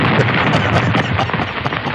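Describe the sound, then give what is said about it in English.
A loud explosion sound effect played in a studio, a dense roaring rumble with crackling debris that stays sustained and heavy throughout, with no voices present. “that's some leftover explosions from the ordinance that I had here in the studio”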